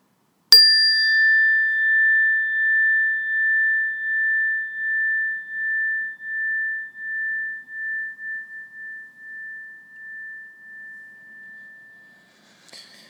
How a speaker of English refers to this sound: When you hear the sound of the bell, just bring your awareness to your breathing and then wait for further instructions.